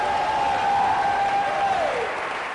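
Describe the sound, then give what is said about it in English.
An audience claps together as a clap offering to the Lord, a dense, steady wash of applause, with a held tone from an organ or keyboard sustained beneath before it slides downward and fades. “Give the Lord a mighty clap offering.”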